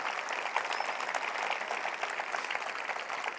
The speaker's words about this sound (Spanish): Dale un aplauso a él, dale un aplauso.